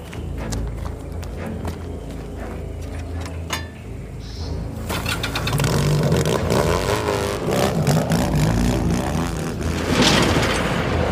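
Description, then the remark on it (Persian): A motorcycle engine, ridden by Saber into a forest, revs and roars, growing louder partway through, after a quieter stretch of scattered clicks and rustling. No one speaks. “صابر با موتور اومده جنگل.”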